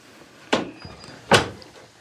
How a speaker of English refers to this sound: shut this door.